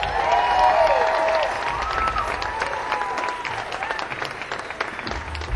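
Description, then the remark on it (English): Sustained applause from an audience for a live band, dense rapid clapping that stays loud and steady throughout, with a few cheers and whoops rising above it. “And a great big round of applause.”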